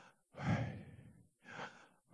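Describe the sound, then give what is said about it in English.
Two slow, airy breaths, a long inhale followed by a softer exhale, breathing as a way of pronouncing the divine name Yahweh, with brief silence between them and no talking. “But some rabbis have said the best way to pronounce it is just by breathing.”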